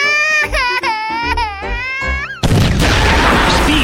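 A cat yowls loudly in a run of drawn-out, wavering meows for a couple of seconds, then a sudden harsh burst of crashing noise cuts in and takes over.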